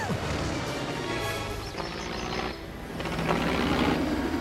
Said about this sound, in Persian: مرغابی بزرگ؟ اون یه هواپیماست و فکر کنم توی دردسر افتاده، رفت سمت رودخونه.